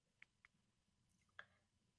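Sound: keyboard typing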